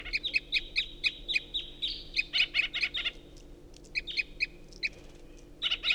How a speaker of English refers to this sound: And the first singer is giving strange flight calls.